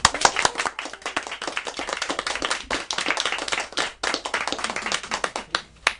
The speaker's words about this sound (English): We get to clap for you, because congratulations to the three of you. The three of you are adopted.